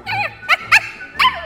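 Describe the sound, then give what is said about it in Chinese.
A small, frightened dog on a walk whimpers in a high, wavering whine, then lets out a few sharp yips and trails off into another falling whimper, fairly loud with no one talking. “走远了，汪汪，你不要害怕，我们继续开心的散步吧。”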